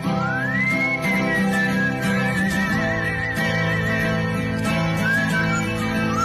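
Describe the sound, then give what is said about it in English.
A bird's whistling call: a clear tone that rises, then holds with a slight wavering, returning briefly near the end, all over a loud, dense, buzzing background. “By playing people can whistle. That was actually a bird.”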